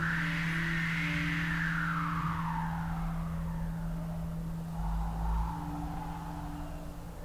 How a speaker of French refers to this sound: Et ces crayons sont équipés de capteurs, de gyroscopes, et du coup on capte l'inclinaison du feutre et ça génère un son, là en l'occurrence le bruit du vent.